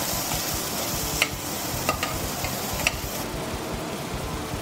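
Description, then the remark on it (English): One whole chopped onion, added to sizzling cumin seeds, sizzles steadily in a hot pan, a dense crackling hiss with a few sharp scraping clicks as a spoon stirs it, continuous with no talking. “Give that a real good mix.”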